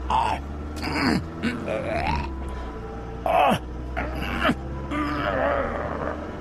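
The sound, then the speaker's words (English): A voice imitates ragged gasping for breath, several strained, breathy heaves and grunts in uneven bursts, fairly loud over a steady low rumble. “Gasping.”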